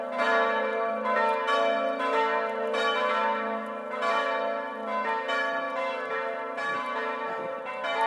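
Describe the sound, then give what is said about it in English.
Church bells ring out in a loud, continuous peal, strikes overlapping about once a second with rich, lingering tones, with no voices. “I have to say, I don't mind bells from a distance, but as I have a ringside seat for bells where I live, and I don't find them quite as exciting as maybe some do.”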